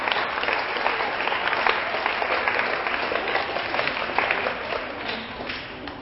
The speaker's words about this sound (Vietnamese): Thì cho một tràng vỗ tay thật lớn để cam kết nào.